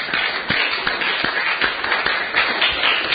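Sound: audience clapping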